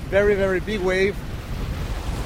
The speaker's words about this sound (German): Wir sind in Hanstholm im Nordwesten Dänemarks. Hier haben wir viel Wind und manchmal sehr, sehr hohe Wellen.